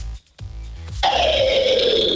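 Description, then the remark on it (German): A person demonstrates the growling scream vocal technique: a low, guttural vocal rumble that breaks into a loud, sustained, harsh and raspy growled scream, held steadily for over a second with no words. “Das nennt man Growling oder wie?”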